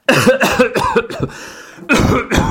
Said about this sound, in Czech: Tak toto je kašel.